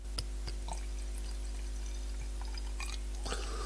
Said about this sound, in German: Ach, ich liebe das Geräusch, wenn der Wein ins Glas läuft. Ein monströs gutes Geräusch.